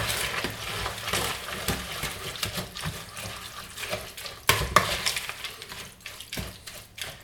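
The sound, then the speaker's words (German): Wet, squelchy stirring of water into a thick oat-flake dough, the last of 350 ml of water added in two portions, so that every oat flake soaks it up. A steady churning with sloshy scrapes and a few sharper clacks, no voices. “Das tut ihr richtig schön unterrühren, damit wirklich jede einzelne Haferflocke dieses Wasser aufsaugt.”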